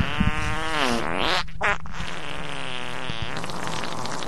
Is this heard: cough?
no